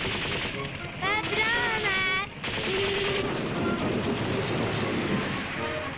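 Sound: gunfire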